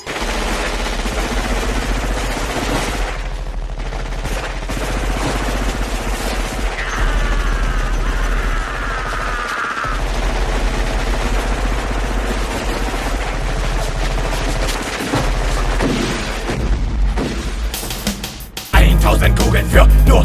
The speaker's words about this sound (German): Und sie ballern über 1000 Schuss in meinen Körper.